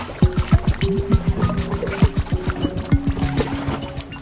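Glacier meltwater in Antarctica drips steadily and quickly, each drop a clear plink with a falling tone, overlapping in an uneven patter against a faint watery hiss. No voices.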